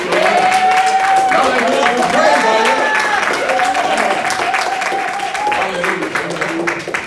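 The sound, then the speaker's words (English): Sustained applause from a church crowd giving Jesus a round of applause, dense steady clapping mixed with cheers and shouted voices, loud and continuous throughout before tapering slightly at the end. “Come on, give Jesus a round of applause.”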